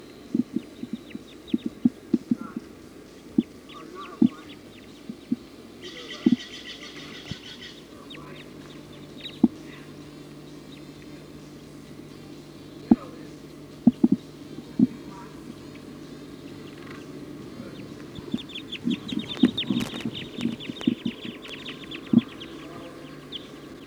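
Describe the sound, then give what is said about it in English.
A flock of birds perched at the very top of a pine tree calls, with chirps and twitters coming in scattered bursts, busiest near the middle and end, plus occasional sharp clicks and a low background hum. “The flock is perched in the top of a pine tree here. Way at the top.”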